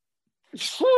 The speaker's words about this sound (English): I need to sneeze.